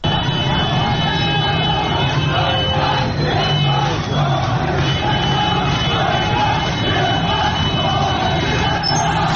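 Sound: street protest crowd chanting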